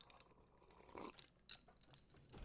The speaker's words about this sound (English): I have to take a little break to sip that G Fuel. I'm drinking this doozy fruit flavor still.